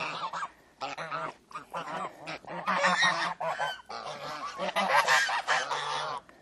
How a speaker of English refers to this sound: Geese are very noisy, aren't they? Well, this wee enclosure, it was really just to force them to cut the grass.